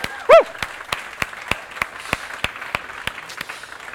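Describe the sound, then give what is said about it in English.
A church audience applauding steadily to welcome new members, with sharp claps rising out of a dense wash of clapping, plus a brief whoop or cheer near the start. “One thing we like to do is when we receive new members, we love to welcome them by just applauding and receiving them warmly.”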